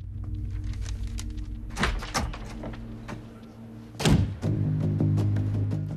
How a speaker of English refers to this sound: Bourne clicks off a miniature tape recorder and slams the pistol down on the desk beside Abbott's head before leaving the room.